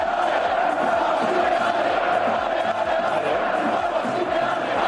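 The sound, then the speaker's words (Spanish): A massive crowd at the Metropolitano stadium chants together in a loud, sustained roar, voices rising and falling in a steady rhythmic pattern with no pauses, chanting "Ole, ole, ole, los huevos de Simeone". “Ayer en el Metropolitano se oyó este grito.”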